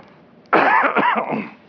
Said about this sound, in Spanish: Perdón, que estaba con una tos fuerte.